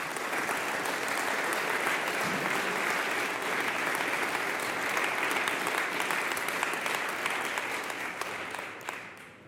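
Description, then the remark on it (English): An audience applauds steadily for about nine seconds, a dense, even wash of many hands clapping that holds at a strong level before tapering off at the very end. “We really owe them a big round of applause because they are the ones that started Ethereum, really.”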